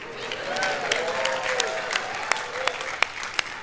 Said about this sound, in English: Thirdly, let's clap our hands to those who are about to be fathers.